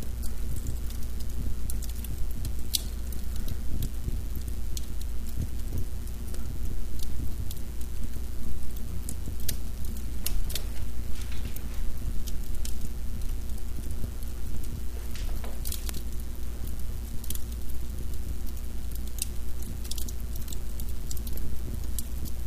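A wood fire crackles in a fireplace, with irregular sharp pops and snaps scattered over a steady low rumble and soft hiss, continuing without any talking.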